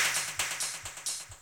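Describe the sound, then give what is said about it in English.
Sharp, bright disco-style claps, like those on 1970s disco records, snap out in a steady rhythm over a thumping low kick, part of a tight, loud drum pattern with hi-hats and triplets, with no voices. “And I wanted this sharp clap sound that I'd heard on disco records from the 70s.”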